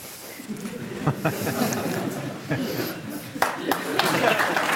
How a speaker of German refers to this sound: Bisschen zögerlicher Applaus, aber Applaus.